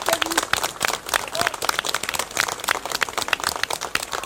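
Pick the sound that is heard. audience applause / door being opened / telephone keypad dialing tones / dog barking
audience applause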